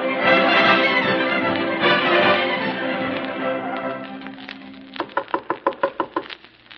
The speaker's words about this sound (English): And now we return you to old Dublin town, where we rejoin Thomas Moore as he knocks on the door of his new collaborator, Sir John O'Flanagan.